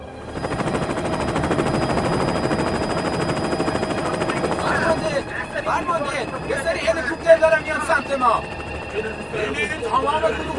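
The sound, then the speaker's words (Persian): Steady rotor thump of several helicopters approaching fills the first half, a dense chopping drone, then voices break in over the continuing engine noise with sharp bursts that could be gunfire. “فرمانده، یه سری هلیکوپتر دارم میان سمت ما.”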